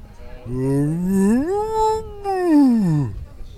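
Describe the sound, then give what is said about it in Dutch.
A man's voice imitates a cow with one long, drawn-out moo, rising in pitch, holding steady, then sliding back down over about three seconds, loud and alone. “ik hoorde net ook dat u heel goed een koe na kunt doen.”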